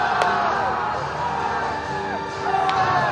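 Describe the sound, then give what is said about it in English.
A large stadium crowd at a Midwest League baseball game involving the Great Lakes Loons roars and cheers steadily, led by the pit crew on the dugout in the Let's Go Nuts chant, with many voices blending into a dense wash of noise and a few sharp whoops rising out of the din. “Pit crew on the dugout, leading the crowd in the Let's Go Nuts chant.”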